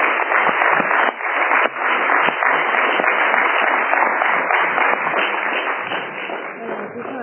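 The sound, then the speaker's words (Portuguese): An audience applauds steadily for several seconds, a dense wash of many hands clapping at once, loud, easing off slightly toward the end with no one speaking. “Entón, se vos parece, damos un aplauso”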